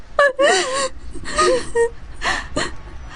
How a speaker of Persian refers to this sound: نه گریه نکن، ما از اینجا میریم. گریه نکن، همه چی درست میشه.